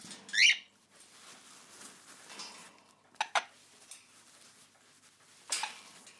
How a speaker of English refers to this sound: Right, for those who've never seen a parrot, this is what the sound of when you touch the feathers, this is what they sound like.